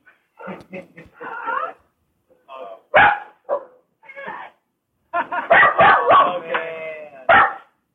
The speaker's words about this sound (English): God, the fucking dogs. Oh my gosh, you're safe. Shut up, dogs.